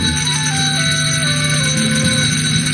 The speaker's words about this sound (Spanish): Tocamos las campanas para ponernos en marcha